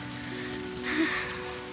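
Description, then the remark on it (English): Steady rain from a storm pours down in a continuous hiss, pattering on a hard surface, swelling slightly for a moment before settling back to an even wash of sound with no voices. “Look, would a liar chase you down in the rain?”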